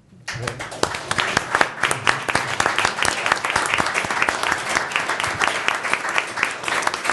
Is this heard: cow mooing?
no